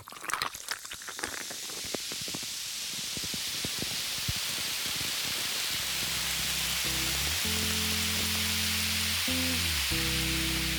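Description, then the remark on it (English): Steady, bright fizzing hiss from a carbonated cocktail, with a flurry of tiny crackling pops at first that settle into a continuous effervescent sizzle as low, sustained music comes in underneath. “Got the fizz. Still love that fizz.”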